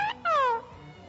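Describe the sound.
An African grey parrot named Einstein imitates a cat's meow: a short, high, tonal chirp, then a longer, louder mew that slides downward in pitch before fading into quiet.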